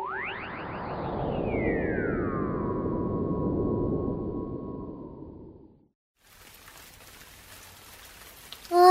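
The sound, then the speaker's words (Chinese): After a swooping, descending electronic whoosh and a brief silence, steady rain hisses and patters outside for the last few seconds, a soft, even wash with no voices. “这么快就回来了，外面下雨了，不知道玛丽姐姐那里有没有下雨啊？”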